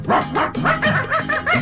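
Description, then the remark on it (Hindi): Dogs of a settlement bark at a jackal in a rapid, excited string of loud yaps, about half a dozen barks overlapping in quick succession with no pause between them. “उस बस्ती के कुत्तों ने उसको देख लिया।”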